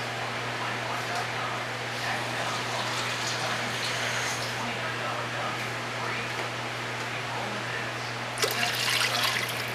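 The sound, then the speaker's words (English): Two cups of water run in a steady, splashy pour into a pot for making chicken broth with Knorr chicken bouillon, lasting several seconds, growing briefly louder and brighter near the end, over a constant low electrical hum. “I'm using 2 cups of water.”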